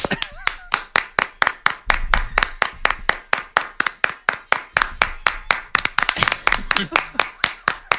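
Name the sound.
hands clapping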